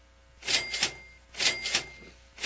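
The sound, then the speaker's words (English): A cash register rings out in quick repeated bursts of bright mechanical clatter, about three in a row, loud with no voices over it. “They have to walk around with cash registers.”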